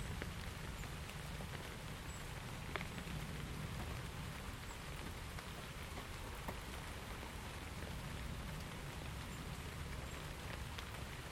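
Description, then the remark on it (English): Steady rain patters on an overhead canopy, a dense continuous hiss with scattered louder drips standing out, even in loudness throughout, with no voices. “Whenever I hear rain dripping like that on a canopy of any kind, it always reminds me of all the caravan years that we had with the kids.”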